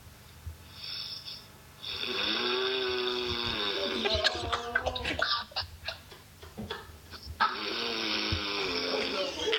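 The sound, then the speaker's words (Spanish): Loud, raspy snoring by a person: a long rattling drawn breath, a stretch of choppy snorts and sputters, then another buzzing snore starting up near the end. “para los oyentes, ese es el ronquido”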